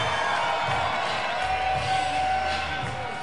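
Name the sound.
baseball crowd cheering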